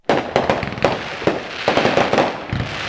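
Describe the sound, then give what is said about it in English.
Fireworks burst in a rapid, irregular volley of sharp bangs and crackles, a dozen or so blasts overlapping one another, fairly loud, with no voices. “Americans will spend more than $900 million this year on bottle rockets, Roman candles, and other fireworks”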